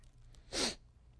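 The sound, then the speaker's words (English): A single quick, breathy sniff through a runny nose, a short burst of hissing air lasting about a quarter second, standing alone with no talking around it. “I apologize for my sniffing tonight. My nose is running and I can't catch it.”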